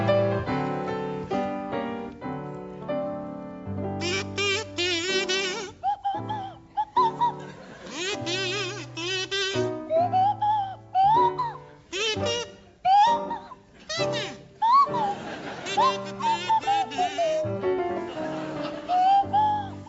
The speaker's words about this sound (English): to feature … on the kazoo and Tim Brooke Taylor on the Swanee whistle.